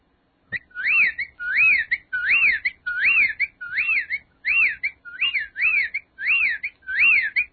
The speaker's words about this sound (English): That is the sound of a whippoorwill, and that's another bird that apparently is disappearing as well.